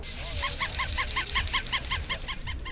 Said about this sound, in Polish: Nad wszystkim latają papuszki, które wydają co chwilę dźwięki.